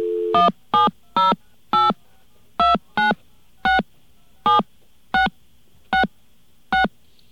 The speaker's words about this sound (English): Okay, there's a number in Chicago. Let's get a dial tone.